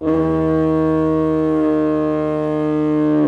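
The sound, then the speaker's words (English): A loud diaphone foghorn blast: one deep, steady, reedy tone held for several seconds, rich in harmonics, briefly creating a second, grunting pitch, with no voices around it. The foghorn can be heard for miles around. “This is the iconic sound of the diaphone, so-called because it briefly creates a second pitch, sometimes more of a grunt.”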